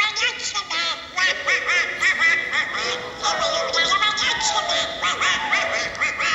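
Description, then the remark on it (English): A raspy, garbled Donald Duck voice, the Disney cartoon character, quacks out a continuous stream of speech-like squawks. It is loud, with rapid rising and falling pitch throughout. “Donald Duck, you know that, Disney character, whatever.”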